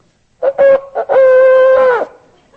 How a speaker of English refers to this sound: This is a ram's horn, which harkens back to Isaac on the altar and in the thicket.